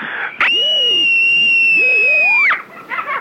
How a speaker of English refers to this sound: Meanwhile, to add to your screamscape... Screaming is a part of my dreaming. It happens only at night.